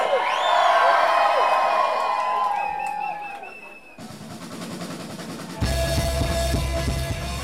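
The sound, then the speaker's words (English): A loud concert crowd at a concert venue in Berlin, Germany cheers and whoops, with high-pitched screams rising over a steady roar of voices, then a band kicks in with pounding bass and drums beneath the continuing cheers. “The audience is on fire.”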